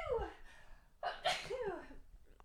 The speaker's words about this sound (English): Are you sobbing? No. No. I started sneezing, and then you look like you were going to pause it.